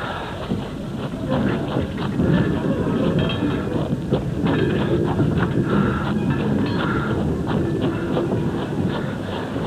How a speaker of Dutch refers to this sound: Er komt de trein aan.